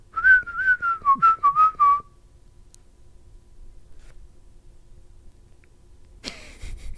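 A person whistles a short, wavering tune of several quick notes for about two seconds, close and clear, followed by quiet room tone and a brief rustling clatter near the end.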